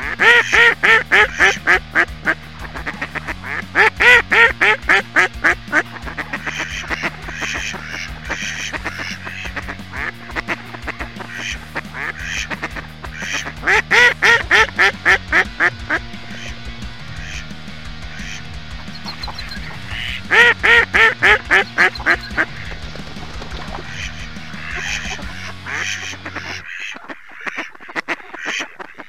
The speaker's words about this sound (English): now, a message from the ducks.